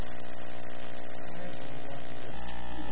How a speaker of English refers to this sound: Air conditioning.